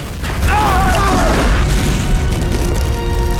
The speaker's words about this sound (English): Malcolm opens the door, but is blown back by flames.